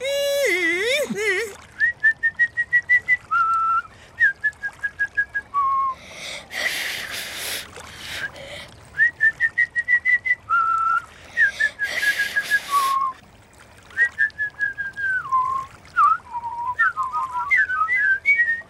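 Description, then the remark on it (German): A person whistles a short, repeating melody in clear, sustained and warbling notes, with brief breathy pauses and a gasp-like intake between phrases; the whistling is fairly loud. “Bringt ihr mir jetzt das Pfeifen bei?”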